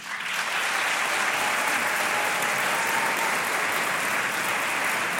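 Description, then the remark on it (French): An audience claps to vote in favour of a proposal to wear skates for hiking in nature, steadily for about five seconds, a dense, even wash of many hands at constant loudness, with no voices standing out. “Alors par applaudissement, qui est pour ?”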